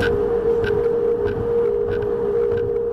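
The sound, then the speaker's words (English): A loud, unbroken drone holds one steady mid-range pitch in the key of C major for the whole stretch, like a giant hum, over a rough bed of rushing wind noise with faint higher whistling pulses: gusts blowing through the new safety slats of San Francisco's Golden Gate Bridge on a windy day. “the relentless drone made by San Francisco's Golden Gate Bridge on windy days.”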